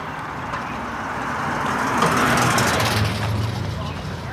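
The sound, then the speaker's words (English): Busy street traffic rumbles steadily, heard while walking in a bike lane amid crowds of people; a car swells louder as it passes midway before fading, and indistinct voices murmur in the background. “I'm walking in a bike lane. There's cars coming, there's people walking in the bike lane because there's so many on the sidewalk.”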